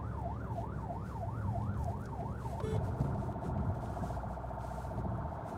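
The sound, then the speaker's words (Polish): An ambulance siren in emergency mode, en route to an adult struck by a car about 4 km away, wails up and down in a steady oscillating pattern, then abruptly switches to a faster, higher yelp, heard loudly from inside the moving ambulance over a low engine rumble. “W ruchu takim alarmowym, że tak powiem, musimy zachowywać szczególną uwagę, dlatego przepraszam, że nie kontaktuję się wzrokowo z kamerą, ale tutaj uwaga musi być na najwyższym poziomie.”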